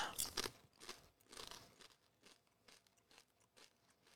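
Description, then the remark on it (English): Crunchy chewing, a few loud crisp bites at first, then a steady rhythm of softer crunches fading over the next few seconds, with no talking. “Can you hear me chewing? I mean, these are good.”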